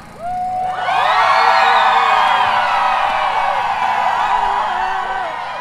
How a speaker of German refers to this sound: Laut mit euch schreien, lasst alles raus, eure ganze Wut auf den Kapitalismus, das Patriarchat und all diese Scheiße. Lasst uns schreien, denn wir sind laut und wir sind da.